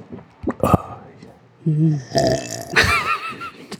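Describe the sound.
A loud, low, croaky burp after drinking beer, lasting about half a second, preceded by a couple of sharp clicks and followed by breathy noise and brief voiced sounds.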